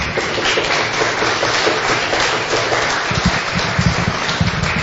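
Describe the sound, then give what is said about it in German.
Steady, dense clapping from an audience fills the whole stretch, a broad crackling wash of many hands with no voices standing out above it. “Und ich finde, das ist ein echter Applaus wert.”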